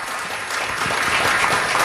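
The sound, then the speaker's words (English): A crowd applauds cast members of Holiday Inn, about to open at the Marriott of Lincolnshire, during a morning weekend theater segment: a dense wash of clapping that swells slightly after the first half second and holds loud and even, with no voices standing out. “Let's hear it for them, everybody.”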